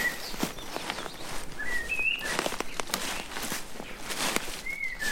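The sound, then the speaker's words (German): Footsteps push through brushy undergrowth at a bushy forest edge, an irregular series of rustling, crunching steps, while birds chirp and whistle intermittently in the background. “Ein paar Schritte durch den buschigen Waldsaum, dann stehe ich vor einer Ackerfläche.”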